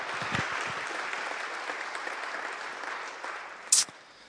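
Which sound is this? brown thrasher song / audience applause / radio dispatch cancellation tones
audience applause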